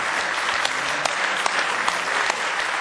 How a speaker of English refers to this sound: Do you really love the Word of the Lord? Why don't we just give the Lord a real good hand clap of praise tonight if you love Him?